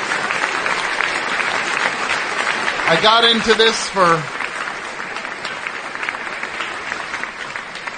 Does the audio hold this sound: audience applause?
yes